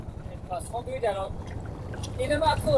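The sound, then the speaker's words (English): A boat's engine drones in a steady low rumble as it moves across Inlay Lake, with voices talking over the continuous motor noise. “In an effort to shake off the surveillance, we took a boat out onto Inlay Lake.”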